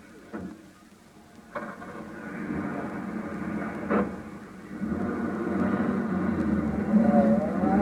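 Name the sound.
taxi cab driving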